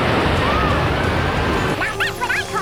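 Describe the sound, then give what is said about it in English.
A steady, full wash of sea surf fills the first couple of seconds, then softens as a few quick, high chirping calls break in over it. “It looks like we're going to be in the sea.”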